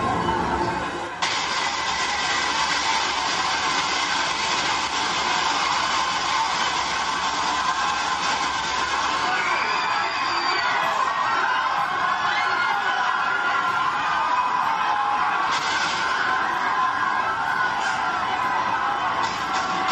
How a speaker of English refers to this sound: In this clip from Call of Duty 4, the player kills civilians in a Russian airport in this very controversial scene.